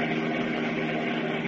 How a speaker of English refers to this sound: And as we continue now, they are speeding along a country highway in their powerful Batmobile.